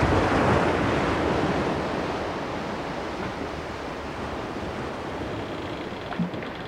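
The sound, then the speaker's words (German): Steady roar of sea waves and rushing wind heard on a ship at sea, broad and continuous, slightly louder at the start and easing off, with a faint knock near the end and no voices. “Also, man hört natürlich das Wasser und den Wind, wenn es Wind hat.”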